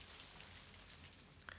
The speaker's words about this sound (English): Oh, it's raining now.